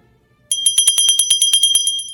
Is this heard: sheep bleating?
no